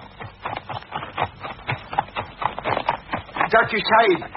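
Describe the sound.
Horses pulling a carriage, their hooves clip-clopping in a quick, steady rhythm, with voices talking over the top of the clatter.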